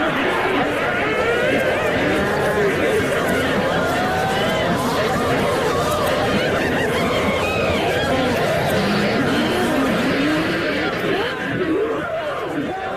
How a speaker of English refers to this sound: They clicked-clopped through into a grand dining room. Here the raucous cackling, shrieking and chattering of 100 old women filled the air to the rafters.